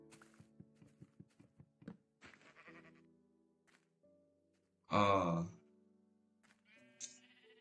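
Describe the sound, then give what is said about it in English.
A single loud Minecraft sheep bleat cuts in sharply midway, preceded by a run of soft rhythmic thumps and followed by quieter tonal game sounds. “I cannot even kill a sheep.”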